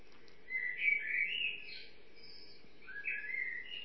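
Birdsong chorus in quiet woodland at Het Loo in the Netherlands: bright, overlapping chirps and trills in two lively bursts with a short lull between, set against a soft, steady hush of background air.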